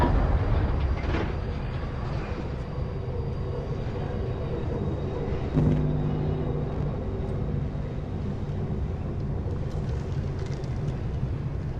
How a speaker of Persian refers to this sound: قطار افسار گسیخته است.